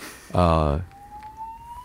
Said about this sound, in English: Fire Alarm? I think so. Let's wait for that.